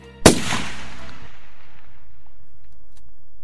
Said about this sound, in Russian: Жмешь одеревеневшим пальцем на спусковой крючок. Выстрел.